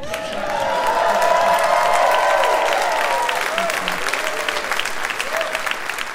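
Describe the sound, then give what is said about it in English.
An audience at a stand-up comedy show claps steadily for about six seconds, a dense crackling wash of hands with a few voices calling out over it early on, holding loud before easing slightly toward the end. “And I am here, thank you, on the pretense of telling jokes, but I really just want to be thanked and applauded.”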